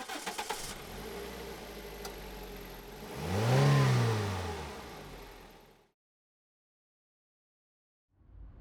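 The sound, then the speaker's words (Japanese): A car engine cranks and catches as the car sets off on a trip, then revs up loudly in a rising and falling sweep before cutting off into silence; a faint rumble returns near the end. “車なんだから当たり前でしょ。”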